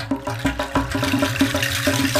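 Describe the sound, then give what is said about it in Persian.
A water tap shudders, sputters and rattles in quick, uneven bursts, a juddering gurgle of water repeating rhythmically, loud with no one speaking. “یک دفعه صبر شیر آب سر اومد، لرزید و قر زد و صداش در اومد.”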